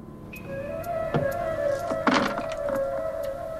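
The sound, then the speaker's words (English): A side drawer slides with a steady whirring scrape while the ammunition from a gun is dropped in, giving several short clunks and clicks over about three seconds; no one speaks. “He looks at it thoughtfully, and moments later is depositing its ammunition into a side drawer.”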